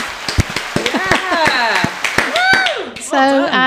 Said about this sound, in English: We got the gold award for the best visitor information centre. Hey, in Devon. I think it was a round of applause for that one.